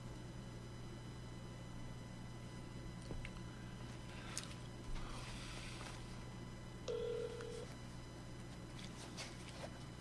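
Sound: telephone dialing tones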